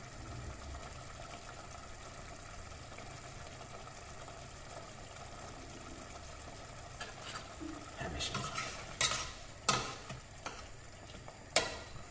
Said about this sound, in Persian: همه جای این گوش تقریبا با گوجه تفت بخوره.